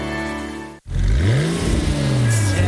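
A sports car engine hums steadily, cuts out for an instant, then roars loudly, its revs climbing and dipping as it accelerates, with no voices.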